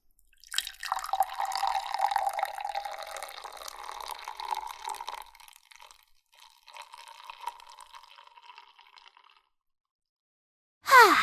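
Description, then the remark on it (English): Liquid splashes steadily into a glass for several seconds, pauses, then a second, quieter pour trickles in before stopping. “I poured a drink and I didn't even spill that much of it!”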